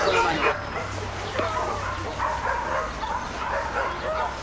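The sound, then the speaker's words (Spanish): A dogo dog barks and yips repeatedly amid whimpering whines, fairly loud, with a noisy, bustling background and some voices mixed in. “Parece que se trata de un perro con carácter, ¿eh?”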